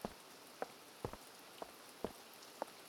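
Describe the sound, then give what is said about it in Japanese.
Soft, steady rain hisses in the background while separate drops tap a surface roughly every half second, quiet, with no voices. “雨の日はみんな外へ出るのを遠慮しちゃうから、いろんなデートスポットが行きやすくなるし、少し見方を変えれば雨ってとっても素敵なもの。”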